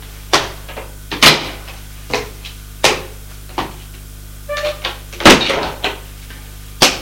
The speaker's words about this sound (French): Nous allons ouvrir une porte vitrée.